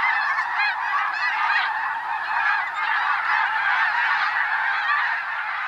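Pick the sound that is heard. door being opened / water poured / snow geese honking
snow geese honking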